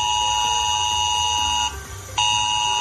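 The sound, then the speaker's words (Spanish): A mobile phone emergency alert, part of a test of the Emergencias 112 alert system in Madrid, Spain, blares a loud, harsh, steady electronic tone with buzzy overtones, cuts out briefly for about half a second, then resumes at full strength. No one speaks. “Se trata de una prueba que se está llevando a cabo, en este caso Emergencias 112, para ver qué tal funciona el sistema de alertas ante una catástrofe.”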